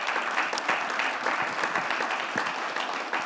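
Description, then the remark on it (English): Steady applause from an audience, a dense, even wash of many hands clapping at once, holding at a constant loudness for a few seconds with no voices on top. “And I think we should all applaud.”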